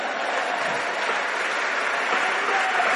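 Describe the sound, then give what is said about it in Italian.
Steady applause from a game show audience for the host, a dense wash of many hands clapping at an even, fairly loud level throughout, with no voices standing out. “al mio pubblico, un applauso per me.”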